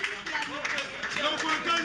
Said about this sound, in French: Applaudissez, s'il vous plaît, très fort. De …, le quatuor de percussion.